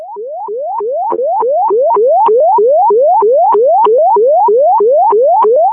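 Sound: fire dispatch alert tones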